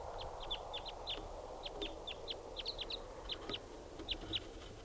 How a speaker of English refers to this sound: They're recording at 7:06 now, and there's a wild lone bird coming in.